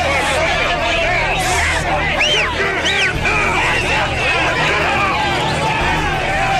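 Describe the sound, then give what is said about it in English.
A dense, loud crowd of demonstrators shouts and yells angrily at police over one another as deputies take a suspect into custody, with a few raised voices cutting through the constant roar of agitated chatter. “And when deputies take the suspect into custody, the crowd focuses all their anger at the police.”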